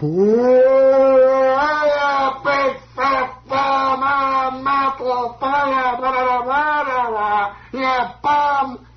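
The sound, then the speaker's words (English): A voice imitates a baseball crowd booing Mantle as he comes up to the plate: long, drawn-out, low moaning 'boo' calls, held loudly and repeated several times with brief breaks, with no other talk. “I said, what are they booing about?”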